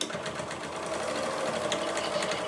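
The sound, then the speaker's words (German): A sewing machine runs continuously as a resident of a communal shelter in Bad Tölz, Germany, sews fabric face masks, its needle chattering in a rapid, even rhythm over a steady motor hum. The whirring stays at a constant moderate level with no voices. “Eine Bewohnerin näht schon an der nächsten.”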